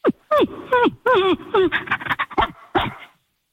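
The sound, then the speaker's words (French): A woman mimics a dog, producing a quick run of yelps, whines and bark-like yips with sliding pitch, followed by a few breathy panting sounds. “Je sais faire le chien parfaitement.”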